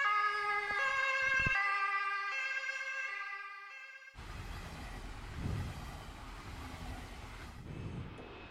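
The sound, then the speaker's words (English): A toy's electronic siren plays for about four seconds, its bright stacked tones stepping up and down in a wailing pattern, then it cuts to a harsh, noisy electronic rumble. “It does have a siren sound.”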